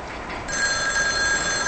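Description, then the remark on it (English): A telephone rings with a steady, shrill electronic trill that starts abruptly and continues to the end, fairly loud, with no one speaking. “Lisa stands, then answers the phone.”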